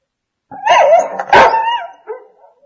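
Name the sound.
dogs barking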